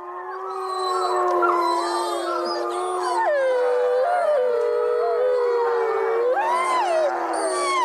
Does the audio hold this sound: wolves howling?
yes